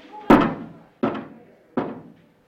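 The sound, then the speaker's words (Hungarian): Three slow, heavy knocks sound, evenly spaced about a second apart, each a deep resonant thud that rings out briefly before the next. No one speaks. “Ha nem, akkor koppancs 12-t, ha igen, akkor 3-at.”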